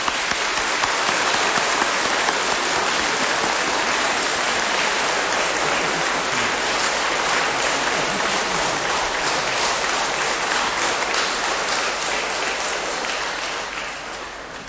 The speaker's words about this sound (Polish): Także uderzmy takie wielkie jeszcze raz brawa tym wszystkim.